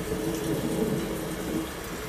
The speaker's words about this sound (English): So for a few seconds, just allow the sound of this beautiful rain coming down. It's thundering, though. There's thunder in there, but just allow the sounds of this beautiful rain to relax you.